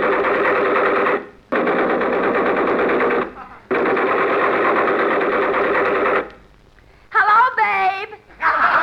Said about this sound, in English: Look, they're digging up the streets with those air hammers. Be careful.